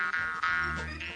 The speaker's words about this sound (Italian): faccio uno squillo di scacciapensieri visto che non ci abbiamo le trombe, va?